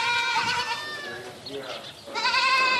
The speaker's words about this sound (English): checking in on the dairy goat shed, where newborns are playing on scattered straw and munching on food pellets.